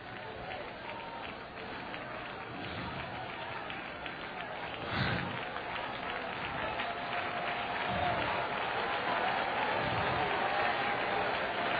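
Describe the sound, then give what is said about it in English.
A large group claps and shouts together in a dense, continuous roar, with a few louder low thumps standing out midway through as the noise stays steady and full. “This clapping, this shouting, this dancing, these tambourines, these organs, these pianos, it's Jewish!”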